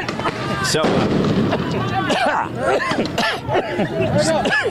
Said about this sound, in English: Yeah, these was one of those flashbangs that went up pretty close to us here. And there is some kind of a chemical irritant in it.